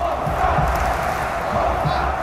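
A crowd of 56,000 spectators at the new National Stadium in Warsaw, Poland, roars and cheers continuously at the opening ceremony of the football European Championship after a dance show by young performers, a dense, steady wash of voices with no pauses, loud and sustained throughout.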